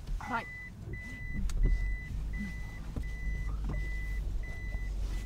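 A Prius hybrid car loaded with produce sets off, with a steady series of evenly spaced electronic reversing beeps over a low vehicle rumble, and a brief voice near the start.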